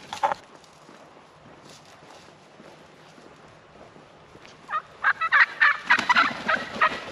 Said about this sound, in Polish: Ale chcę wam tutaj szybko pokazać jakieś dzikie indyki.